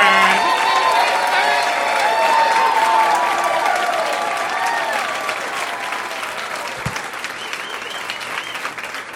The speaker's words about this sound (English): I want you to hear a lot of laughter, a lot of applause, a lot of love for our first comedian tonight. A big round of applause